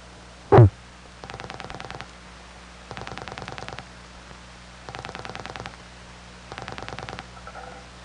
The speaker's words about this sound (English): After having been on hook for 20 seconds, we hear the tick of the crossbar 5, cutting the incoming call from the step off.